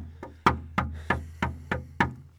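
Someone raps firmly on a door, about six quick, evenly spaced knocks in a steady rhythm, fairly loud, with no voices.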